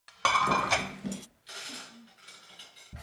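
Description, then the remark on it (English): Dishes and cutlery clink and clatter as they are set on a dinner table in a Ukrainian family's home in Delta Junction, Alaska, a loud burst of ringing knocks at first, then softer scattered taps and scrapes. “Those are just a few dishes set on the table.”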